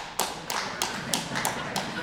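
Sparse clapping from the men in an audience in a slow, steady beat, about seven sharp, evenly spaced claps over roughly two seconds above a faint background murmur.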